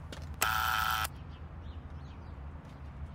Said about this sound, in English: The apartment building is locked. Try the buzzer.